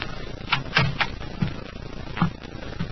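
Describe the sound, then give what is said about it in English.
Someone knocks at the door of apartment 1B and then opens it, a series of short knocks and latch rattles followed by a few softer bumps, heard alone without any voices. “I knocked. Then I tried the door. It was open, and I walked in.”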